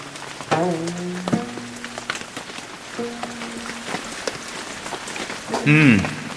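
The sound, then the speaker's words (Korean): Steady, heavy rain hisses throughout, falling on a mountain while two people shelter in a cave; inside, a plucked string instrument is played along to the sound of the rain, ringing out a few sliding, bending notes over the downpour. “둘은 비를 피해 동굴로 들어갔는데 배가는 그곳에서 빗소리에 맞춰 검은 거를 연주했습니다.”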